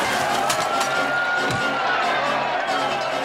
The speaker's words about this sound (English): A surly group of patrons begins protesting the show of force. The crowd joins in. This once spirited celebration explodes into a full-scale riot.